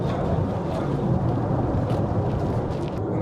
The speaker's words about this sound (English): In Bakhmut, explosions echo through the near empty streets. Suddenly, the scream of a jet fighter overhead.